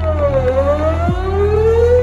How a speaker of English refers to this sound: This is why we use low frequencies anytime we need a sound to travel as far as possible, like a foghorn. Or like a sweeping tornado siren.